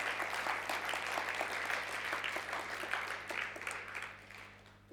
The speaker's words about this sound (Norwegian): Skal vi gi Jesus en skikkelig applaus og en lovprisning nå?